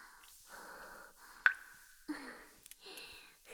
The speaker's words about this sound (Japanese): 水音が響いてる。